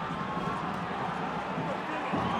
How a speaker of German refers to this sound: Linz kontert uns eiskalt aus. Absoluter Wahnsinn. Der nächste Jubel bei den Linzern.